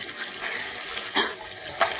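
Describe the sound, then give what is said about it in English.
Choppy, white-capped sea water lashed by a stiff breeze churns and hisses steadily, with two sharp splashing slaps of waves pounding against the upturned hull of a capsized boat, fairly loud, no voices. “A stiff breeze lashes the sea into angry white-capped waves that pound at the shipwrecked trio as if trying to tear them loose from the upturned hull.”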